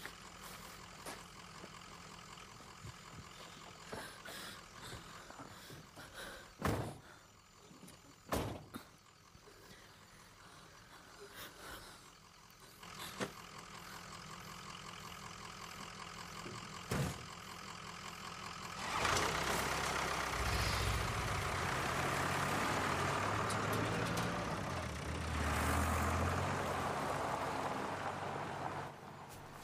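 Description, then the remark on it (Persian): An engine idles steadily while several sharp thuds sound in succession as people get into a car and shut its doors; then the engine swells louder and rougher as the car pulls away. “نمیشه با ماشین تو بیایم؟ هیچ کس جز من سوار ماشینم نمیشه. حالا سوار شین.”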